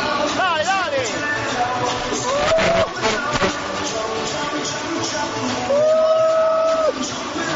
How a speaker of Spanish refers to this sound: Escuchad cómo empiezan las segundas partes en el estadio de Riazor. ¿Podemos poner un momento el ambiente? Sí. Escuchad qué discoteca.